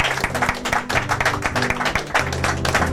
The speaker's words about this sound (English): Can we give Him a hand clap of praise and just worship the Lord today?